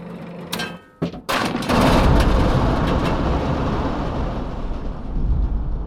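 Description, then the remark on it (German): A theatre thunder box, as used after a lightning strike in the thunderstorm scene of the play Brandner Kaspar: a few sharp cracking bursts, then a loud, sustained low rumble that rolls on steadily with slight swells until the end, with no voices. “Ja, es gab so eine Gewitterszene und da ist halt Blitzeinschlag und dann entsprechend der Donnerkasten.”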